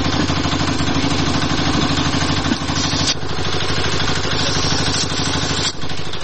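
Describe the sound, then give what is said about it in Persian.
Tank engines rumble in the city of Kabul, Afghanistan, as the military coup against Daoud Khan's government begins, in a loud, unbroken drone, a low throbbing growl layered with mechanical clatter that holds steady throughout, with no voices. “صدای تانک ها در شهر کابل شنیده شده و کودتای نظامی علیه نظام داود خان آغاز می گردد.”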